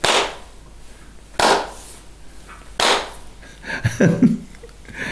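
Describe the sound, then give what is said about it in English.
Three sharp, loud hand claps ring out at a slow, even pace, each with a brief fading tail, followed by a short burst of a murmuring voice. “We are discussing, and you are clapping three times in the hand."”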